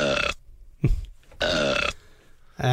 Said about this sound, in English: If you could have a gift, would you rather have a bottle of delicious whiskey that would never get empty, or a button that could make Piers Morgan burp at any time?